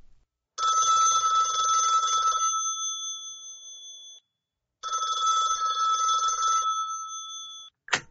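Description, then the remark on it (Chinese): A telephone rings twice in loud bursts of a steady electronic trill, each ring a few seconds long with a short gap between, followed by a brief click as it cuts off. “怎么会想到要打电话给我啊？”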